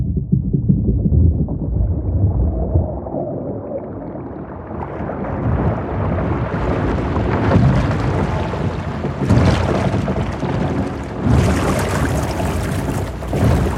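A large mill wheel turns with creaking, continuous splashing and churning water, heavy rumbling and occasional louder surges of rushing spray, steady throughout with no voices.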